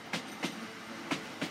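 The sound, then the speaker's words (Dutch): The last train arrives at a deserted, LED-lit station in Beervelde, its wheels knocking over the rail joints in two quick pairs of clacks over a low steady rumble. No one speaks. “De laatste trein komt aan in Beervelde.”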